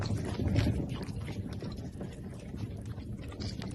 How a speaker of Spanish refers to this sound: De cómo hablan las tortuguitas del acuario